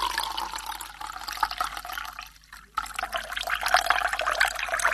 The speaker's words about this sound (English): Then the teacher brought out a large container of water and poured it into the jar.